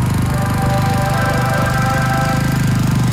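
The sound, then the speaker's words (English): A Toro Snowmaster snowblower, which throws snow up to 40 feet, runs steadily and loudly, its rapid chugging pulse carrying a droning mechanical hum throughout, with no voices heard. “So if you'd rather hear this heavenly sound than these sounds, then head to a Toro retailer and get the all-new, easy-to-handle Toro Snowmaster that throws snow up to 40 feet.”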